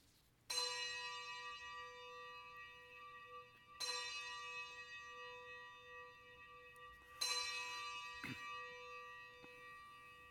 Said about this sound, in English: Let us ring the bells of remembrance.